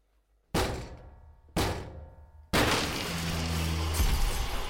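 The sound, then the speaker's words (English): A door is being broken down: two heavy, booming blows a second apart, then a third that bursts into a long, loud crash of splintering wood and tumbling debris, with no voices. “You could have broken down our door any time you wanted to, couldn't you?”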